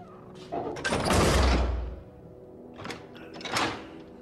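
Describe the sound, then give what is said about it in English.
A heavy metal prison cell door slides shut with a loud rumbling clang and deep thud, followed by a couple of softer clanks as it settles. “The governor leaves and the cell door is closed.”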